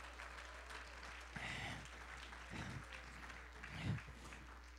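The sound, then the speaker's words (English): A church audience breaks into sustained applause as a hand clap of praise to God, a dense wash of many hands clapping at once that rises and swells in a few surges before easing off, with no voices standing out. “Somebody give him another hand clap of praise.”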